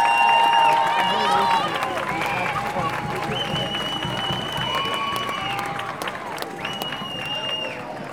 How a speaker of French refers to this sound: Voici les chivalettes de la calendretta d'Au Chivalette. Applaudissez-les!